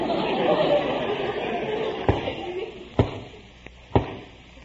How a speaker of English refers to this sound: That's what I mean. Sounds like a knock on the door.